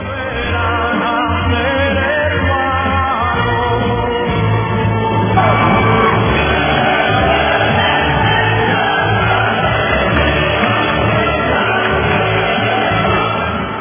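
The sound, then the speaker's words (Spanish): A crowd claps and cheers steadily for about fourteen seconds, applause dedicated to the people who marched, with shouts and whoops rising over the dense applause, loud and sustained without a break, and no one speaking. “Démosle los aplausos a la gente”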